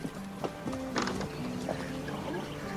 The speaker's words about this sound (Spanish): ¡Espérate! ¡Detén tu caballo!